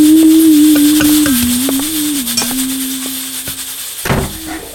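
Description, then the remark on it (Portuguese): Hot water rushes steadily from a shower as a boy takes a bath, in a continuous hiss, with a low droning hum beneath it and a few sharp knocks and clunks scattered throughout. “Vá tomar logo seu banho que daqui a pouquinho vai estar tudo pronto.”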